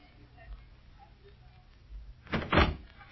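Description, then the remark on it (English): A front door opens with a short burst of clattering and a solid thunk in quick succession, following a couple of seconds of quiet room tone. “Is that the front door? Yes. Yes, it's just front door.”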